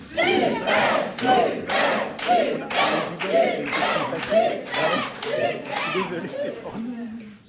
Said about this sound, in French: On vous applaudit chaleureusement, bravo pour ce banco.